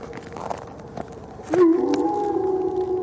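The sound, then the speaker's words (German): A wolf lets out one long, sustained howl that begins partway through, swells up and then holds a steady tone over a quiet, faintly noisy background. “Der Wolf antwortete.”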